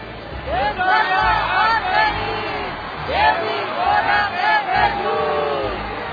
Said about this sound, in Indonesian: Akan tetapi ketika mereka mengetahui bahwa ia seorang Israel, maka mereka semua dengan serempak berteriak-teriak selama kurang lebih 2 jam.